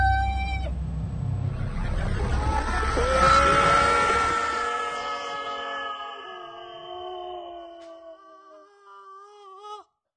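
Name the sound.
engines firing up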